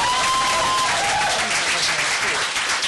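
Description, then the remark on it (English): Sustained audience applause for Alex Horn fills the whole stretch, a dense, steady wash of many hands clapping with no break or lull. “So, ladies and gentlemen, a big round of applause for stalwart behind the computer, Alex Horn.”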